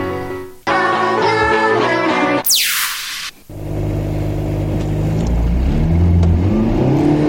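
A car engine starts up and revs loudly, then a quick whooshing sweep gives way to the steady rumble of the car driving off and accelerating, with no voices; the car sets off to pick up a star for the show Rendez-vous dans un bled près de nulle part.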